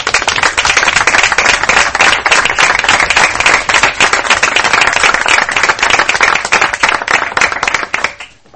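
An audience applauds steadily, a dense, crackling wash of many hands clapping at a sustained loud level for several seconds before quickly tapering off at the end.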